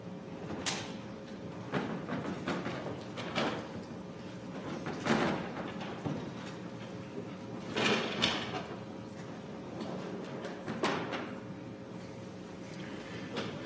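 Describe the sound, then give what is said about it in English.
In a courtroom, a bailiff turns a large exhibit board around backwards and sets it against the wall: a series of scraping, bumping thuds spread over several seconds, over a steady low hum with no talking. “Bailiff, if you just want to turn it around backwards and set it against the wall.”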